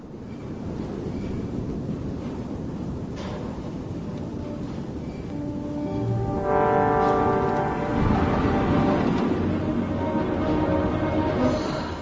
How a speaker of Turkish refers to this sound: Fena bastırdı. Tipi halinde yağıyor. Göz gözü görmüyor dışarıda.